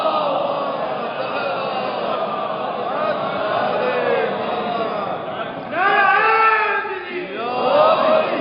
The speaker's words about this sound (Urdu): حضور بڑی مہربانی، آپ کے نعرے سانس لینے کا موقع فراہم کر دیتے ہیں، لیکن زیادہ مت کر دیجیے گا ان نعروں کو، پھر میرے سلسلہ سخن میں بڑی رکاوٹ آئے گی.